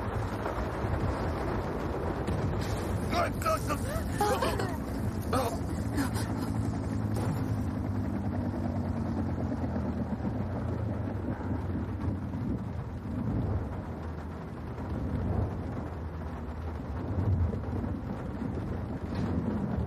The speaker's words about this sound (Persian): موتورهای اصلی خاموش شدن، کنترل ندارن. هلیکوپتر داره سقوط میکنه. هلیکوپتر در حال سقوطه. داریم سقوط میکنیم.